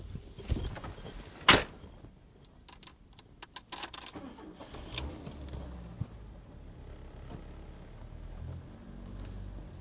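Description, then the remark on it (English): A sharp thunk and a few clicks and rattles, then a car engine starts and settles into a low, steady rumble as the car is moved out. No one speaks. “Anyway, I'll move the car out”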